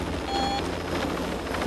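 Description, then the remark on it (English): A steady, loud police helicopter drone with a low pulsing rotor throb under a broad engine hiss, heard from inside the cabin, with no one speaking. “In the police helicopter,”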